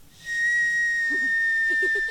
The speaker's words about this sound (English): Oh, kettle's boiled.